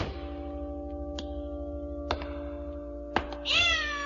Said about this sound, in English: I stepped on my cat's tail. That's strange. I didn't see any cat. There isn't any. Just a tail.